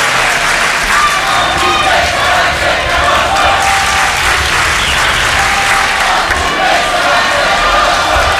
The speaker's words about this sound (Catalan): La gent segueix cridant, els bombers seran sempre nostres, ho fan ells mateixos, aquella vintena de bombers que hem vist entrar per allà.